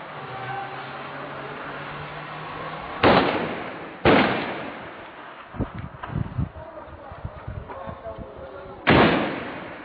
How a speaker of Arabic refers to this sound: اطلاق النار العشوائي على حي الحميدية بحماة، 25/1/2012.